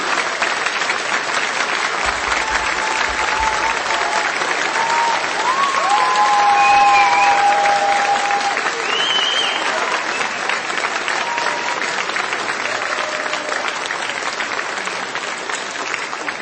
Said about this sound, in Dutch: En daarom wil ik u vragen om een groot applaus voor …, … en de Closing.